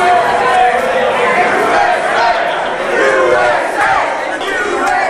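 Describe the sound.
A large crowd of Kentucky Derby fans in the tunnels underneath the track chants patriotic chants loudly and continuously, many voices blending into a dense, rising and falling roar with shouted phrases cutting through.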